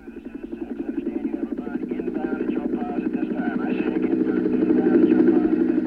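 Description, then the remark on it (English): A helicopter's rotor thumps in a rapid, steady chop that grows gradually louder over several seconds as it descends into a sunlit clearing surrounded by dense vegetation, a droning engine hum beneath the beating blades. “The chopper descended into the sunlit clearing, surrounded by dense vegetation.”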